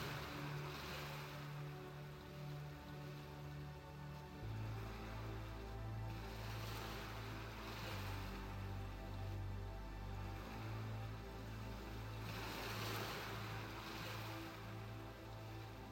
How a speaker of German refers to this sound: Die heranrollenden Wellen, wie sie mit einem Rauschen am Ufer auslaufen, wirken sehr beruhigend auf dich.